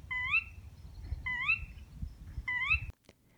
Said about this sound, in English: And some more bird sounds.